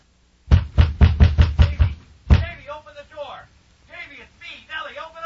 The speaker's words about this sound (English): It was that humanitarian streak that got him into trouble, as I found out the night he came knocking on my door. Did I say knocking?